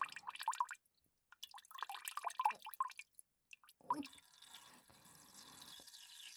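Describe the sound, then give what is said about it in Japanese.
A stream of urine splashes down outdoors in heavy rain and wind, in a spot sheltered from the rain, starting as broken, irregular spatters and drips, then settling into a steady, hissing pour of liquid that continues to the end. “ずっと我慢していたから、すごい勢い。あ、すごく気持ちいい。あ、まだ出てくる。”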